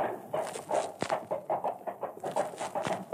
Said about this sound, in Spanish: un grupo de caballos se acercaba al establo vacío.